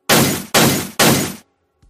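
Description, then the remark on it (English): Three loud, sharp shattering crashes follow one another in quick succession, each a bright burst that rings off and fades. It sounds like a bunch of glass test tubes standing in the way of a key being smashed, with no voices. “Like the science classroom, a bunch of test tubes are in the way and I can see a key beyond them.”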